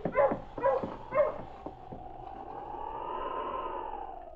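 Husky sled dogs let out a few quick, sharp barks, then settle into a long, drawn-out whimpering whine that wavers in pitch and carries on steadily.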